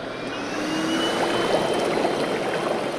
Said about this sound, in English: And when I press this button, all of a sudden, the tub fills with thousands and thousands of luxurious bubbles. And this is the low setting, and here I'm going to really crank it up for you.